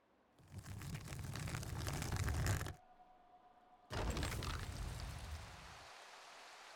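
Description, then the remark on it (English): Water gushes loudly in two heavy, roaring surges separated by a brief lull with a faint hum, the continuous torrent rapidly filling an underground room. “An underground room filling rapidly with water.”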